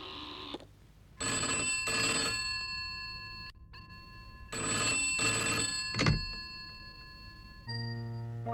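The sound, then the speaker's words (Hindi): An old-style telephone bell rings in two long, rattling bursts with a short pause between them, loud, followed by a brief electronic tone at the end. “Mister, आप क्यों बार बार phone करते हैं?”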